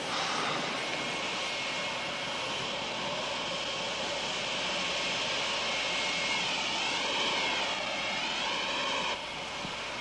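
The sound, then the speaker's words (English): A jet airplane engine roars loudly and steadily, filling the whole stretch with a broad, dense rumble and a rising whine that wavers near the end before easing slightly. “We've got to stop that jet.”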